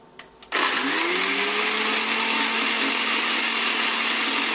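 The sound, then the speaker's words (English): After a brief quiet moment, a blender making homemade mayonnaise kicks on with a loud, steady whirring roar as a cup of olive oil is drizzled in until the mix becomes thick, its hum dipping slightly in pitch as it settles into a constant blend. “And you're going to want to blend this and drizzle this in until this becomes thick.”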